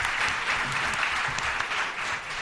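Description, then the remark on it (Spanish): An audience claps steadily for singers who have just sung, a dense, even wash of many hands with no pauses lasting a couple of seconds, at a consistently strong level. “Se merecen ustedes un aplauso, ¿eh?”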